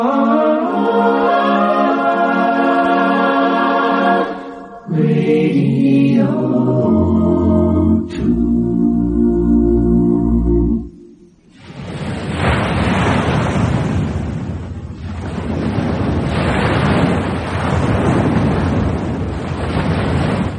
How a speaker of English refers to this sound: Sea wash on a deserted sandy beach in Normandy, northern France. 50 years ago, this was part of an area designated Sword Beach.